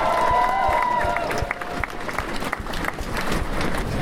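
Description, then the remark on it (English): A crowd applauds steadily with dense, crackling clapping throughout, while a few high-pitched whistles and cheers rise over the noise near the start. “So a round of applause for you, really.”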